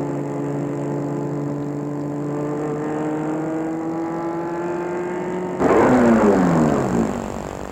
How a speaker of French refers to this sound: Arrêtez sa voiture devant un bel immeuble cossu du 19e. Sorte de voiture.